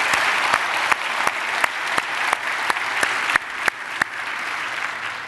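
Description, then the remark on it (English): A church audience gives steady applause to welcome each other, a dense wash of many hands clapping with a few sharper individual claps standing out at irregular moments, fairly loud and with no talking. “So by applause, would you just help me welcome each other?”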